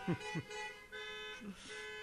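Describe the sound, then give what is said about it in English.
Several car horns honk together in sustained, overlapping blasts, moderately loud, with a few low rumbling bursts underneath at the start. “Let's hear those horns honking.”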